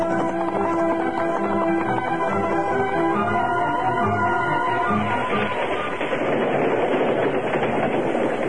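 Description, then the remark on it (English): A freight train rushes along the rails, a loud, steady rumble with rapid clattering wheels that grows harsher and noisier toward the end, with no one speaking. “Aboard the train, Dakota clung to the side of an empty freight car.”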